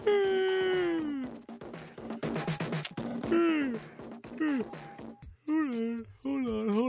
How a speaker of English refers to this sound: Hold on. I'm yawning. Oh, man. That was a big yawn.